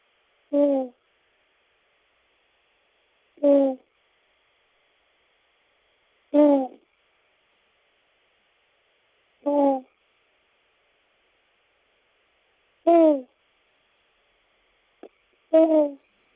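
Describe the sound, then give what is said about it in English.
A person mimics an owl with six short, voiced hoots spaced a few seconds apart, each clear, with silence between calls. “and here's my owl sound.”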